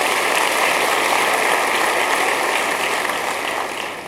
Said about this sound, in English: Let's give a hand clap to Jesus.